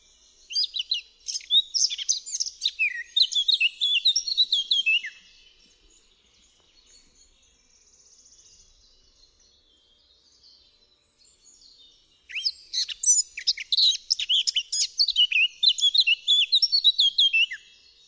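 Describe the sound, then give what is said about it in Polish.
Eurasian blackcap song: rapid, high warbling strophes in two loud bursts with a long, quieter pause between them, where only faint song carries on. No one speaks. “Posłuchajmy zatem dla przypomnienia trzech typowych zwrotek kapturki.”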